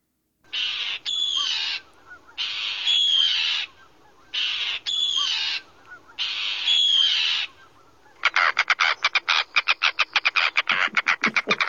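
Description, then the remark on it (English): Harsh, grating Arctic tern calls: four long raspy screeches at a steady pace, then a fast chattering burst of sharp rattling notes. Loud, with no talking. “let's listen to the Arctic tern”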